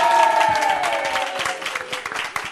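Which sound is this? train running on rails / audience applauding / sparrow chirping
audience applauding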